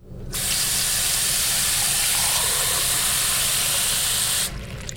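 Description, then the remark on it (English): Fresh, clean water pours steadily into a big glass, a bright rushing hiss that runs unbroken for about four seconds before cutting off abruptly. No one speaks. “Mmm, a big glass of water. Fresh, clean.”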